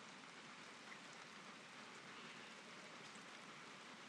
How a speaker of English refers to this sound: But I actually love the sound of the rain when I don't have to go out in it.